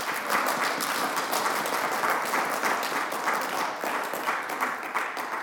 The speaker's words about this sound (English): Let's give her a clap.